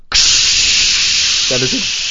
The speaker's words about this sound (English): In America, we have showers that sound beautiful like this.